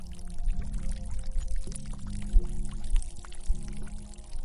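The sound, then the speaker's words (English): A steady stream of liquid splashes continuously onto the ground as a person urinates outdoors off a trail running parallel to a river, with a low gurgling undertone and no voices. “Once I was sure I was far enough away, I started doing my business.”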